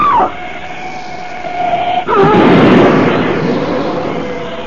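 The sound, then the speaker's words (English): A steady wailing tone holds for about two seconds, then a car on the road is smashed to bits by a large black shape coming at terrific speed, in a sudden loud crash that leaves a rough, rumbling roar fading slowly. No one speaks. “That ugly black shape, it smashed Butler's car to bits as though it were an eggshell.”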